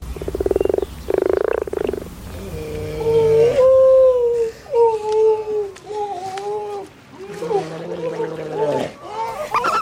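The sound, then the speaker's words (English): A common frog croaks twice in quick succession, low purring rattles heard clear, then long wavering moaning calls take over, rising and falling like wails without any talking. “Okay, so that was the common frog, the grey seal, barn owl, the puffin, the Eurasian curlew,”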